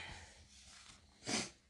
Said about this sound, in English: Sorry for the sniffing.